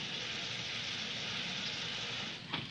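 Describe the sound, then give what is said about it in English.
Carbonated water fizzes steadily from a soda fountain, a continuous bright hiss with no voices, ending with a short sharp click. “No, turn on that carbonated water. I want to hear it fizzle.”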